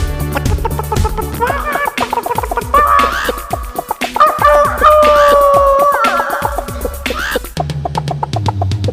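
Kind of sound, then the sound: vocal imitation, chicken clucking imitation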